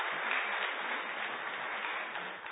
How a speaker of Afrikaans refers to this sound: Dis omdat jy Engels praat, dat ons hande klap hoor.